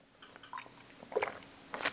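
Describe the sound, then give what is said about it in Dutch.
Someone takes a sip of a drink, with soft wet slurping and swallowing noises in a few quick bursts, the last one slightly louder. No one speaks. “Slokje hoor.”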